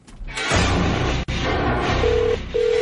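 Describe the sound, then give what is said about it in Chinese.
A loud, busy musical show jingle with telephone dialing tones: two steady beeps near the end, sitting on top of the full backing music, with a brief dropout in the middle. “要唔要坏电话听个 jingle 先？”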